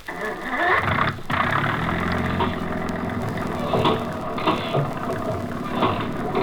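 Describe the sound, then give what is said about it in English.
An engine turns over and catches, then settles into a steady, loud mechanical rumble with clanking machinery running continuously, no voices present. “Start that engine.”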